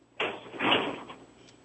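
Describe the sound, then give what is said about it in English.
A single door swings shut with a soft, drawn-out swish and muffled thud that fade within a second, heard alone with no one talking. “I hung up on the guy, and then I heard a door close somewhere.”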